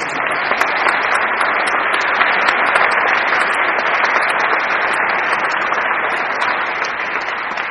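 Sustained applause from an audience, a dense, steady wash of many hands clapping at an even, loud level throughout, with no voices standing out.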